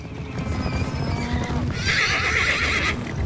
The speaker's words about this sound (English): Tyler removes the saddle and blanket from his horse, which whinnies as mustangs gallop past nearby.